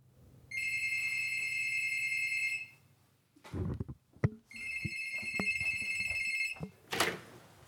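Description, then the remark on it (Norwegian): An apartment doorbell rings twice as a guest arrives, each ring a steady, bright electronic tone lasting about two seconds, with a few dull thumps and knocks in between and a burst of rustling at the end. “vente på at dørklokka skal ringe”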